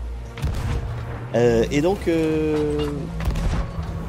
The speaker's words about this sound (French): Ah, le son du jeu est un peu fort. Ah, excuse-moi, oui, j'ai peut-être mis un peu fort. Je vais baisser. Là. Parce qu'on est en plein canonnage, effectivement, ça peut faire un peu fort.